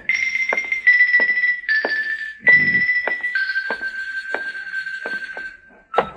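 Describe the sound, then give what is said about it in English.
Repeated knocking on a door, roughly nine sharp raps in a steady, unhurried rhythm, sounding over a continuous high ringing tone. No one speaks. “Come on, answer the door.”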